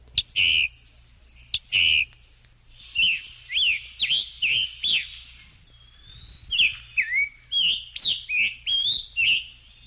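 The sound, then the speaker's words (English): A scarlet tanager calls repeatedly at normal speed, with two harsh, burry notes at the start followed by a quick, clear series of whistled, slurred phrases, fairly loud with no other voices. “So first, here's the call of the scarlet tanager back to normal speed.”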